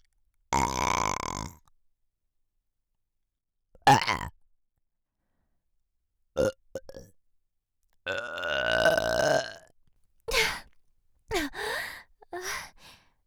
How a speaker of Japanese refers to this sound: 巫女の口から呼気を浴びせるという。 え、 どうです？ゲップじゃないかと？どうでしょうか。